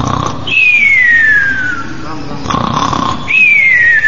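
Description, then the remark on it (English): A person imitates snoring in a cartoonish way: two rounds of a raspy inhaled snort, each followed by a long, descending whistled exhale, loud. “So I'm remembering Prabhupada imitating snoring.”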